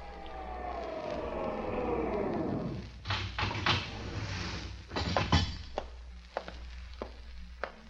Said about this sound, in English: Wait until you hear the elevator, then use the stairs. I waited on the stairs, watching the elevator door.